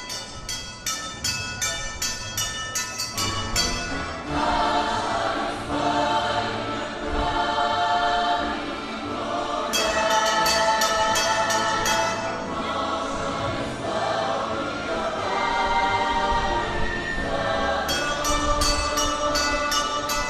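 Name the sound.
church bells ringing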